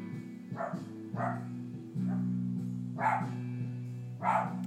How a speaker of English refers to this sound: I don't know what he's barking at. He's gone inside.